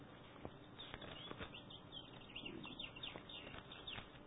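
Faint bird chirps from outside a window come in short, scattered bursts over a soft background hiss. No one is speaking.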